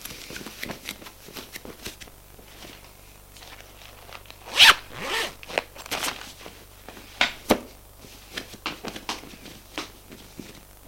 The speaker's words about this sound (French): Il se lève. Il se déshabille.